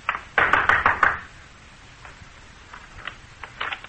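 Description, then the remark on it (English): A quick burst of four or five sharp knocks on a wooden rear door, fairly loud, followed by a quieter stretch with a few faint taps and shuffling sounds. “I walked boldly to the rear door and knocked.”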